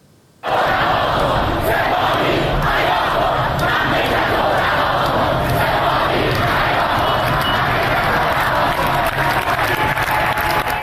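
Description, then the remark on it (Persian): A large crowd of students and protesters in front of Amirkabir University in Tehran, Iran, chants slogans against the Revolutionary Guards loudly in unison, a dense, continuous roar of many voices with rhythmic surges and no pause for nearly eleven seconds. “در مقابل دانشگاه امیرکبیر تهران، دانشجویان و معترضان علیه سپاه پاسداران شعار دادند که با حمله یگان ویژه و شلیک گاز اشک‌آور روبرو شدند.”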